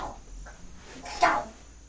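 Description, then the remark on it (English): A dog lets out a single short, sharp bark about midway through, moderately loud, against a quiet background. “Dog. What's the matter?”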